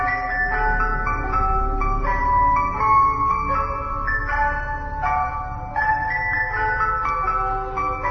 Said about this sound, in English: We were happy until the ice cream truck came. Or, in our case, the Dickey D.